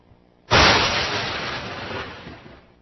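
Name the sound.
lightning bolt strike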